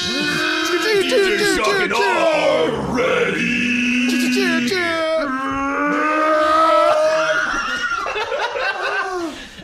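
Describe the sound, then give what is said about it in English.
A few voices scream and yell nonstop at full volume, their pitches sliding up and down, mimicking a roaring crowd after a "Let's get ready to rumble" call, with bits of laughter mixed in. “Endless screams. Just screaming.”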